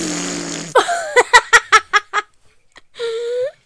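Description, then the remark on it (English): Someone blows a loud, buzzy raspberry imitating a fart, then breaks into a quick run of rhythmic giggles, ending with a short drawn-out vocal squeal. “just making fart noises.”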